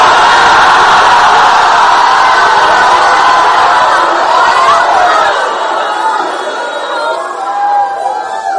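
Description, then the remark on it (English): A large crowd screams and cheers continuously in response to a call to scream "I am the owner", a dense, loud roar of many voices with shouts and whoops rising over it, tapering slightly near the end. “As you scream, I am the owner, grace comes upon you.”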